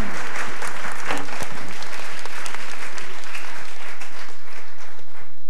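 An audience claps steadily for several seconds, a dense, loud patter of many hands with bright crackling texture and no voices standing out.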